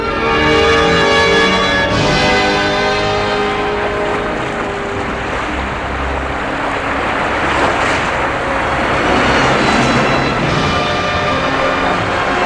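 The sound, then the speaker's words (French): A small private propeller airplane flying from France to Africa drones steadily and loudly throughout, its engine hum holding a constant pitch with a broad rushing wash and no voices. “Ils ont quitté la France en avion privé pour l'Afrique.”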